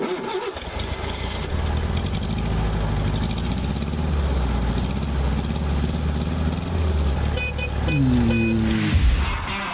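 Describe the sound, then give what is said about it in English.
A car engine, before being rebuilt and tuned, idles steadily with a low, rough rumble, then briefly revs near the end before settling back; no one speaks. “to come and have your engine rebuilt and tuned with advanced engine dynamics, or not to have it done? You be the judge.”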